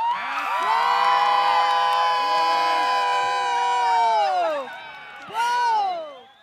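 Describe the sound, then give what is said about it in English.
A large crowd at Headlands Beach State Park, Ohio, on the shore of Lake Erie, erupts in cheers and whoops as the moon obscures the sun during a solar eclipse at 3:14 p.m. Eastern Time; many voices shout together in a sustained roar, then a brief dip before another burst of excited yelling. “the crowd that gathered there on the shore of Lake Erie”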